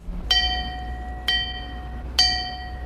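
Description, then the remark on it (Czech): Three metallic knocks on a large clapperless bell on the town hall tower in Třeboň, evenly spaced about a second apart, each with a sharp attack and a bright ringing tone that lingers and overlaps the next, over a low background rumble. “Dovolil jsem si takovou malou rozjívenost zaťukat na zvon bez srdce, který je na radniční věži v Třeboni.”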